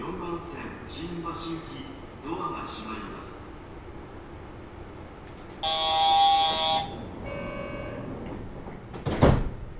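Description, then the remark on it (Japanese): Train doors on the right side open after a loud, steady electronic warning buzzer that sounds for about a second, followed by a softer tone and a sharp mechanical thump. Muffled Japanese announcements come first, saying the right-side doors will open and that the next stop is Tokyo Big Sight. “右側のドアが開きます。ご注意ください。”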